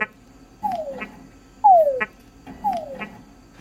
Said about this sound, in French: les dames Tungala répondent plus aux chants de séduction des messieurs